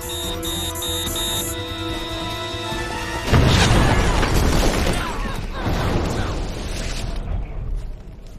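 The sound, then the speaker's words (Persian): A steady tonal hum gives way to the sudden, loud explosion of a building, then several seconds of roaring, crashing debris and rumbling collapse before it fades into scattered rattling. “ساختمون داره میترکه.”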